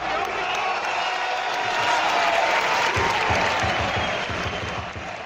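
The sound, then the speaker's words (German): A large stadium crowd at a football match roars steadily in a dense, sustained wash of cheering and applause, with rhythmic thumping claps or chants emerging in the second half, loud throughout. “So wird es sicher nicht klingen, wenn demnächst der Fußball wieder rollt.”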